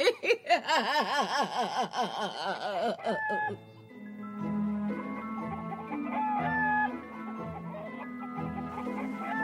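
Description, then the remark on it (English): Loud, rapid chicken clucking with wavering, squawking calls fills the first few seconds, then gives way to a steady musical background with sustained tones. “cock-a-doodle-doozy. How did the Firebird turn into the funky chicken?”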